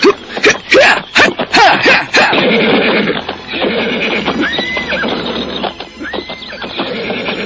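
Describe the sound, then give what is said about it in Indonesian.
A horse neighs a couple of times against a steady outdoor background, after an opening burst of quick, rhythmic hoof clops. “aku dong diajarkan naik kuda.”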